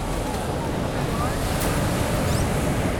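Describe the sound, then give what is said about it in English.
Ocean waves crash against the rocks at Arpoador, between Copacabana and Ipanema in Rio de Janeiro, in a constant, loud roar of surf, with wind buffeting the microphone and no distinct individual breaks standing out. “Wedged between the two iconic neighborhoods of Copacabana and Ipanema, vicious waves beat up against the rocks at Arpoador.”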